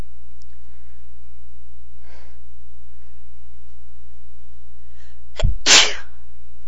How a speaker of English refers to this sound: They keep making me sneeze. Excuse me. I don't think my nose has been this tickly in a long time.